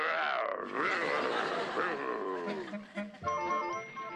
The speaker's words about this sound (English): He's been so mean and irritable, he hasn't spoken to me for the last 2 weeks. All he does is growl.